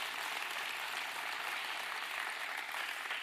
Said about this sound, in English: Y'all look at me. Why don't you clap for about 10 people? Amen.